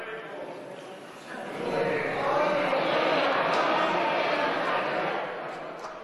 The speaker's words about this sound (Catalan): Después sentim que le aplaudixen la intervenció a Íñigo Errejón, inclús de la bancada del Partit Popular també le aplaudixen.